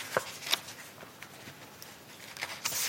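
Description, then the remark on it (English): Soft, crackly rustling of paper notes as a speaker arranges them, a few sharp crinkles early on and a longer shuffle at the end, with quiet pauses between and no one speaking. “With my paper here.”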